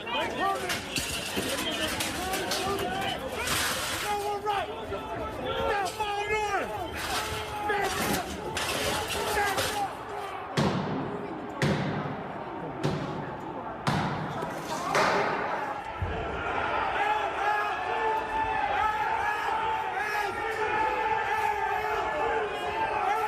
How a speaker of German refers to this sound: Die nächsten Aufnahmen kommen aus dem Kapitol drinnen und es wurde gefilmt, der Moment, in dem die Türen aufbrachen und die Leute reingeströmt sind.